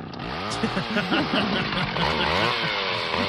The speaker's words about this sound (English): You're gonna go out there with a chainsaw. All right, everybody, be really quiet. Let's take down the tree.